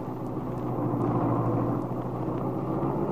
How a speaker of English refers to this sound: A few minutes later, Lisa was brought down and carefully helped into Paul's Roadster, with the lap robe tucked snugly around her. Now, Paul guides the car out of the hospital driveway.